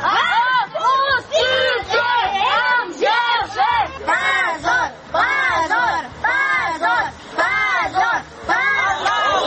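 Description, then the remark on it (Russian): A crowd of children shouts and chants loudly in unison at police after a court hearing, calling for their fathers to be released; their high voices rise and fall in repeated rhythmic bursts with brief pauses, over a constant murmur of babble. “После суда дети кричали полиции, чтобы силовики отпустили их отцов.”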